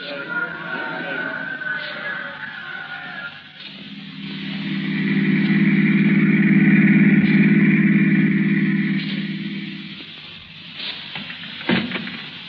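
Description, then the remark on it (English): A car engine hums steadily, swelling louder over several seconds before easing back down, a low motor drone with faint background noise around it; the car is waiting outside a port. “I've got the car outside.”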